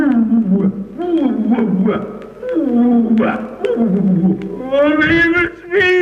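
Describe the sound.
A voice imitates a lion with a series of drawn-out, wavering growls and roars, loud and close, rising into a higher, strained howl near the end.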